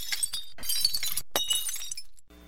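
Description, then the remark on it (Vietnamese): A stack of bowls and plates piled in a large round-bottomed pan topples onto a concrete floor, crashing and shattering, shards scattering and clinking in several bright bursts over a couple of seconds, loud, before cutting off abruptly. “Bể văng tung tóe những mảnh vụn khắp nơi.”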